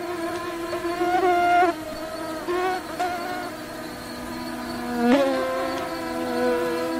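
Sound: mosquito buzzing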